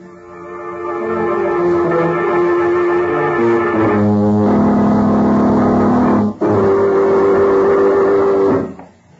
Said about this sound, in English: I'll get my car out of the garage and take them out to camp right now and turn them over to Major Wayne.